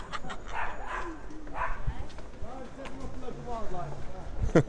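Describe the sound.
A dog barks in short bursts, with a loud bark near the end, amid whining, yelping sounds and a muffled voice over a steady background rumble.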